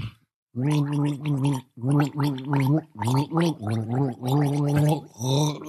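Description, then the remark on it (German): Someone gargles water while humming a melody, the bubbling voiced tones rising and falling in short phrased bursts that follow the rhythm of Jingle Bells, with brief pauses between phrases. “Jingle Bells. Wir sind Weihnachtsprofis, oder?”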